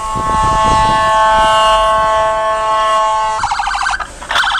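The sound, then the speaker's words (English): A loud Philadelphia ambulance siren holds a steady blaring tone for a few seconds, then switches to a rapid pulsing yelp with brief gaps near the end. The ambulance is trying to get past a man parked on the shoulder of a road, and the EMT uses its PA. “This is some videotape of a Philadelphia EMT in an ambulance, not pleased with a guy who's parked on the shoulder of a road when the ambulance is trying to get through.”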